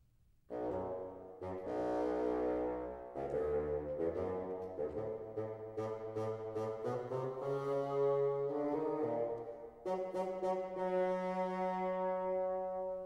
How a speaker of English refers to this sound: The grandfather by the bassoon.